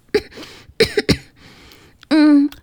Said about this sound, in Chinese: 他为自己刚才讲的谎话感到羞愧，但是为了让小王子相信他是真的弱不禁风，就故意咳嗽了两三声。